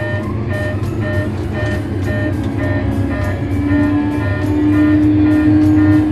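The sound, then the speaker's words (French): A loud, steady aircraft engine roar builds as the parking brake is released and throttle applied for the takeoff roll on a Nice to Geneva route, its hum swelling and a whining tone climbing higher toward the end, with no voices. “Donc voilà, on défait le frein de parc, mise de gaz, hop là, c'est parti.”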